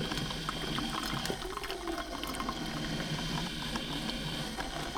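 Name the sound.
water bubbling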